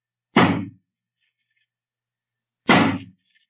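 Two heavy axe blows split into a wooden door barred on the inside, breaking it open, each a sharp splintering crack with a brief woody rattle, spaced a couple of seconds apart with silence between, loud.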